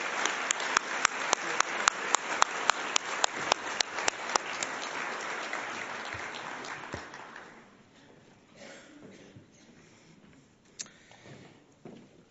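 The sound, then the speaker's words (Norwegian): Audience applause rises loudly from a crowd as guests walk up onto a stage, dense clapping with a steady rhythm of sharper claps on top, then fades out after about seven seconds into quiet background noise and a few scattered claps. “Ta godt imot dem alle sammen, men applaus mens de er på vei opp på scenen.”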